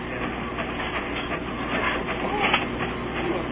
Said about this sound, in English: Let's hear him ring up the sale. He's got to go make a Slurpee. Conversation in Pierre, South Dakota. That's a cash register here. Yeah. See, it's printing.